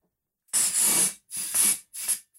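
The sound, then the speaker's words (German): Gas hisses from a bottle into a balloon in three loud bursts, the first longest, each a sharp rushing hiss separated by brief pauses, with no voices. “Ich habe immer Angst, dass der Ballon platzt, weil es gibt nur, wir haben halt noch genau einen Ersatzballon.”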